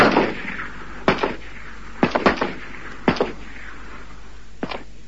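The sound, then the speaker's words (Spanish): Several sharp gunshots fired by soldiers inside a school crack out at irregular intervals, some in quick clusters of two or three, each with a short echoing tail, with no voices. “Al poco tiempo se oyen varios disparos.”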